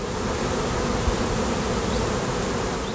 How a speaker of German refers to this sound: Brausen an Bienenstöcken.